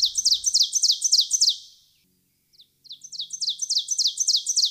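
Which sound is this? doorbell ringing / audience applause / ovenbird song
ovenbird song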